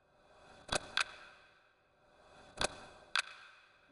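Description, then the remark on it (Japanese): A clock ticks quietly in sharp paired clicks, tick-tock, with pauses between each pair, against an otherwise quiet background and no voices. “時計の音に身を任せて。”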